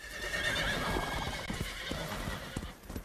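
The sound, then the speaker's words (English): A horse whinnies loudly over a steady patter of hooves clip-clopping on hard ground as a knight and his men on horseback meet a fallen tree blocking a forest track; the neigh rings through the first half before the hoofbeats carry on alone. “The knight's horse leaps easily over the obstruction, but the others pull back. One falls off his horse.”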